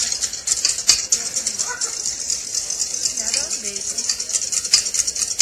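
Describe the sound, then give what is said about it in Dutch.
A whisk beats steadily against a bowl while making mayonnaise as oil is dripped in, a fast, continuous metallic scraping and clatter that stays fairly loud throughout, while faint voices murmur underneath at moments. “Dus als je nu doorklopt, zal ik eens even kloppen?”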